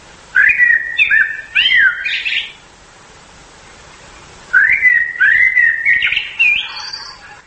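A nightingale sings two bright bursts of rapid, whistled and warbling phrases, separated by a brief pause. The song is clear against a quiet background, with no voices.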